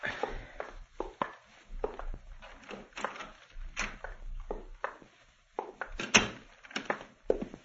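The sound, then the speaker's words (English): A door opens with a series of knocks and thuds, followed by several heavy footsteps and shuffling as men walk in without knocking, moderately loud. “Most people knock before they come in here.”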